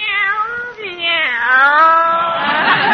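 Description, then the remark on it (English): A cat meows loudly, a brief cry followed by a long, drawn-out wavering yowl that rises and falls in pitch, with no talking. “Meow. Look at Minerva. She looks like the cat that swallowed the canary.”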